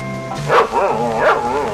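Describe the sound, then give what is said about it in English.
An old barking machine, still working, gives two loud dog-like barks about half a second apart, each a warbling, tonal yelp over a steady droning hum, with no voices. “Here's an old barking machine.”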